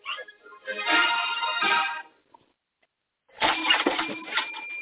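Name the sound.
bus engine starting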